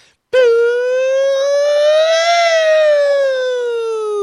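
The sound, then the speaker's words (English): A loud siren holds one sustained wail for about four seconds, swelling slightly in pitch midway before sliding gently back down, with no talking over it. “I need a siren.”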